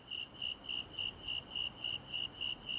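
A snowy tree cricket chirps steadily, about eleven even, high-pitched pulses in quick metronomic rhythm, fairly close and clear over a faint background hiss, with no talking.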